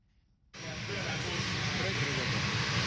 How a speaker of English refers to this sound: The Boeing 737-800NG plane left Kigali at exactly 10 Wednesday morning.